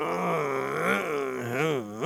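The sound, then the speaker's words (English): A man imitates a big truck shifting into first gear with his voice: a low, growling, engine-like drone that rises and falls in pitch for about two seconds, with no words. “You ever see a big truck take out first gear?”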